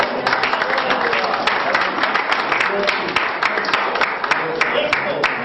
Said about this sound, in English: Don't you want to praise him? Let's give him a good hand clap before it's over.